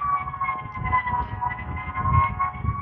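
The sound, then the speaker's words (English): A fire engine siren sounds a sustained, fairly steady high tone with a bright overtone over continuous low traffic rumble, in Greeley, Colorado, on a cloudy morning. No one speaks. “Apparently really hot somewhere in town.”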